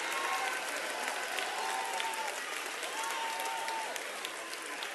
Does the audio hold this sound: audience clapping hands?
yes